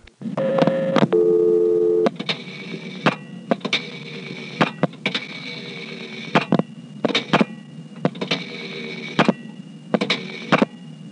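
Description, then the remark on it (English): Ringback test tones on a step-by-step telephone exchange, using ringback code 173 without the director: a steady two-part tone at the start, then a long series of buzzy tone bursts broken by sharp relay clicks, clear with no talking. “I'm now using ringback without the director.”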